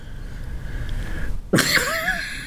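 A single sharp sneeze bursts out after a second and a half of low steady hum, followed by a brief voiced, wavering tail as it trails off.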